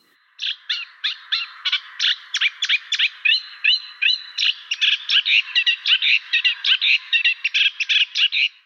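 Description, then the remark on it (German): A small, inconspicuous brown-beige songbird sings a long, rapid series of bright, repeated chirping notes, clear and continuing steadily with no voices or other sounds around it. “Ja, das ist ein ganz unscheinbarer Vogel, unscheinbarer braun-beiger Vogel, den vielleicht auch viele von euch noch gar nicht zu Gesicht bekommen haben.”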